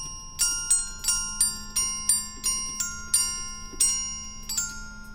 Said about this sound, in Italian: E con le note meccaniche del carillon, per la precisione dell'orologio musicale, da Leras nel Canton Vaud,